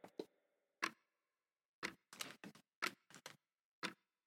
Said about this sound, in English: Okay. Just a clock in the background. I like it.